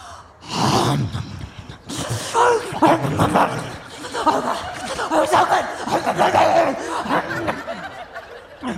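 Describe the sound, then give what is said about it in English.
A dog wolfs down hot dogs in a loud flurry of gulps, smacks and snorting breaths, the eager chomping going on almost without a pause for several seconds. “She scarfed those down like she was starving.”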